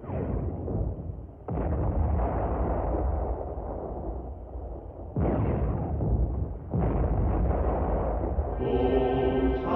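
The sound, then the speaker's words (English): Several booms of distant cannon fire on the horizon of the Western Front in wartime roll in at irregular intervals, each swelling into a long, low rumbling echo that never fully fades. No one speaks, and faint tonal notes surface right at the end. “Meanwhile, on the Western Front, the war has stopped, except for a scattered cannon fire on the horizon.”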